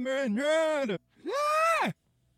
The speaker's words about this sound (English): He's got a good yell.